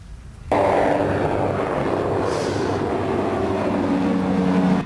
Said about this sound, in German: Das ist die Reaper, wie gesagt. Das ist die Weiterentwicklung der Predator-Drohne.